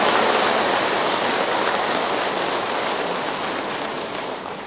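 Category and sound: crowd, long loud applause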